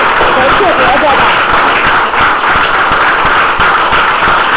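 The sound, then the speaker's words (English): A standing church audience claps together as a clap offering to the Lord at an Easter service, in a loud, dense wash of applause that holds steady for several seconds, with individual sharp claps popping out of the crowd noise and faint voices mixed in. “If that's your best, let's give our best clap to the Lord.”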